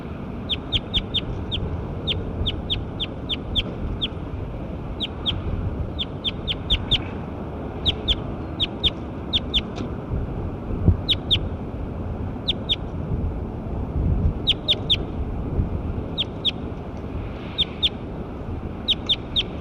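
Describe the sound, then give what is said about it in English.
A bird calls repeatedly with sharp, high-pitched chirps in quick clusters of two to four, recurring steadily throughout over a constant low background rumble. No one speaks. “Start recording Bird 9 again.”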